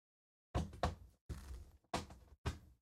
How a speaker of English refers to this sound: That and the sound of my cat scratching on the side of the booth here. I'm not sure exactly. I need to take a peek here. I guess it was the little shy cat.